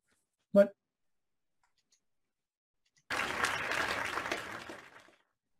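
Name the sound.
short applause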